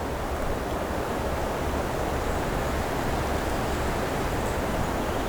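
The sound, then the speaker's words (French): Steady, continuous wind noise fills the background, a broad even rush with no gusts or pauses, moderately loud and unbroken throughout, with no voices. “Et le vent, le bruit de fond du vent.”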